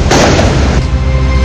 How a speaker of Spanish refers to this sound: Ahí ustedes escuchaban entonces cuáles eran las características de los petardos, las bengalas, los fuegos artificiales que se utilizaron, hay que decirlo, lanzándolos de manera vertical pero también horizontal hacia Carabineros,